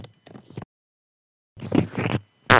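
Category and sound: human body sound, fart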